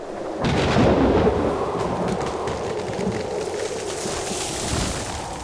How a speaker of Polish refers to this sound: Nastał wieczór i nadeszła potężna burza. Wichura szaleje po lesie. Wyrywa z korzeniami dąb, który stał na polanie.